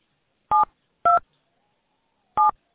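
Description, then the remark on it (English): Three short touch-tone keypad beeps from a phone being dialed to enter a name in a company directory, the first two close together and the third after a pause, clear and alone with no talking. “by using the keys on your touchtone phone, please enter the first or last name of the party you wish to reach.”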